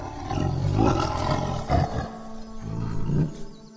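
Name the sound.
tiger roaring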